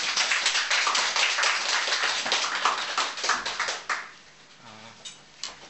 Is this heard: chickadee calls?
no